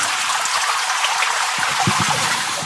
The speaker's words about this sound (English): And whenever I need help or you need help, there's one thing we do. We turn that shower on and I'm going to invite you in this morning.